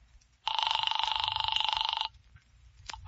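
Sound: telephone ringing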